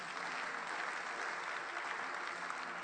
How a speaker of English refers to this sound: Amen. Thank you for clapping.